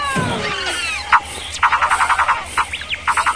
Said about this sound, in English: And just got rid of the snake there. You just heard the snake.